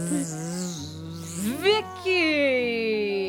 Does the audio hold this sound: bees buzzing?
yes